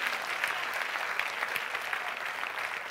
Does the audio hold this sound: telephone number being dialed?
no